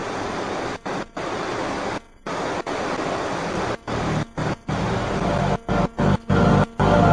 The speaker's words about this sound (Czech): To je vlastně Forty Mile River tady.